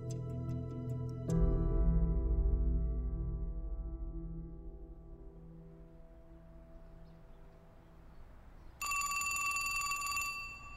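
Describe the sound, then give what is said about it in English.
A sustained musical tone with a deep low boom fades slowly, then a loud, bright telephone bell abruptly rings out near the end, continuous, with no voices. “The phone rings, you pick it up, ask who's calling, then you take a message or you hand it to the person they want to talk to.”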